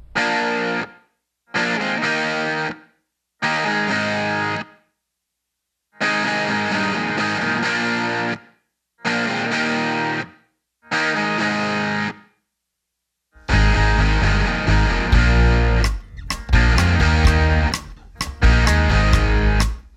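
A loud, distorted rock song with heavy guitar chords played in choppy stop-start bursts, then breaking into a fuller, driving section with drums and crashing cymbals. No voices are heard.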